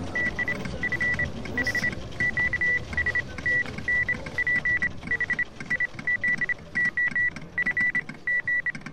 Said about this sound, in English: I keep hearing Morse code even when I'm awake. I'm always looking behind me for anyone doing Morse code.